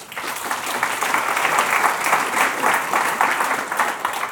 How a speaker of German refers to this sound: Und dieser Applaus gilt dann auch gleichzeitig an die Mitglieder dieses Redaktionsteams, dass sie diese Aufgabe übernehmen.